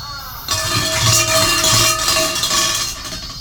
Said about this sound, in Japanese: じゃあせっかく鐘があるので鐘も鳴らしておきましょう。